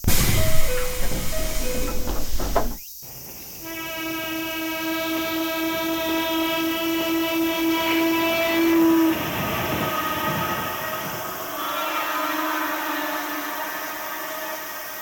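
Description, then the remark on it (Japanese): A train at a station platform: a short chime melody, a sharp clunk, then a loud sustained horn-like tone over steady rumbling as the train moves. Nobody speaks. “電車乗らなきゃいけないのに、どうして降りてきたの？”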